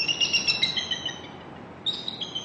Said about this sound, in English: Via the webcam, Merrill and others get much closer than they can in person, watching run-ins with intruders and hearing the eagles' calls.